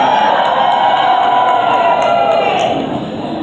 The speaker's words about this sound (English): That's a good cheer.